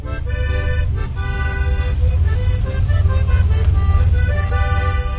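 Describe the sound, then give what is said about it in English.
Steady low rumble of four lanes of road traffic at the U.S. border crossing from Juarez, with a reedy, sustained accordion melody played by a man walking against the traffic, prominent over the engine noise. “A man with an accordion walks against four lanes of traffic, inching forward to the U.S. border crossing.”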